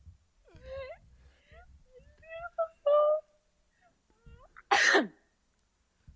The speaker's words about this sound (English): Gesundheit.